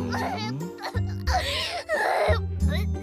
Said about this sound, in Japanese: な、…が泣いてる。 なんであの人勝手に入ってきて勝手に倒れてるの、怖いよ。